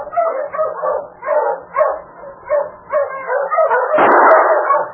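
A team of sled dogs barks and whimpers in overlapping bursts, a steady clamor of yips and whines that swells louder toward the end, without any talking.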